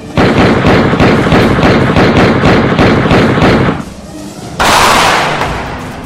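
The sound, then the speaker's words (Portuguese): A loud, rapid burst of gunfire, dozens of shots rattling off in quick succession for several seconds, then a brief lull before a harsh rushing blast that slowly fades. “Homem é executado com vários tiros em pedras de fogo em plena luz do dia. Foi uma chuva de bala!”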